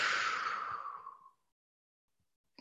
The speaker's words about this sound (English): And just breathing in and exhaling.